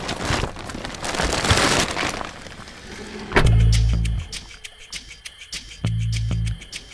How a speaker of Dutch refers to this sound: Ik vraag nog even door, maar de kofferbak gaat al open en de blauwe Albert Heijn-tas verdwijnt in de auto.